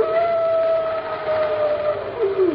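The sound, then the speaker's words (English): A wolf howls in one long, sustained note that holds steady and then slides downward at the end, heard over a hissing, windy background. “That isn't the wind, Pat. Those are wolves.”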